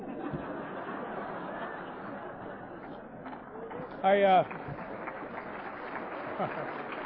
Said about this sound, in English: They're clapping for your sponsor